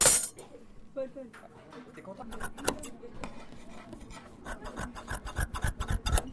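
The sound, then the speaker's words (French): Scissors cut through fabric: a run of crisp, rasping snips that grow quicker and more regular toward the end, with faint voices in the background. “C'est quel bruit ça, madame? La coupe. La coupe avec les ciseaux.”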